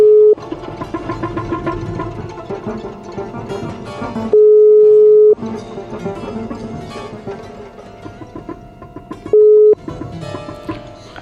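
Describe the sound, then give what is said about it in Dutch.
An outgoing call's ringing tone: loud, steady single-pitch beeps repeating about every five seconds, with busy music filling the gaps between rings. No one speaks. “We zijn Robert aan het bellen.”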